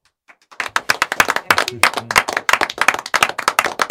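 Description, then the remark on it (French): An audience bursts into applause for a performer after a sung piece, following a brief quiet start, with many hands clapping loudly in a dense, steady patter, joined by a faint cheer or voice partway through. “Parce qu'on peut l'applaudir encore plus fort, parce qu'on a passé un moment extraordinaire.”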